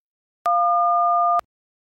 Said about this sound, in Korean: 지금은 전화를 받을 수 없습니다. 삐 소리가 울리면 메시지를 남기시기 바랍니다.